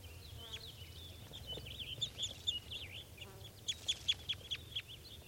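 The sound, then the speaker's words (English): Birds perched in a low spruce calling: a series of short, high-pitched chirps and whistled notes, some in quick rhythmic runs, over a low steady background hum. “So according to those birds are calling a little bit. They're just perched in a low spruce.”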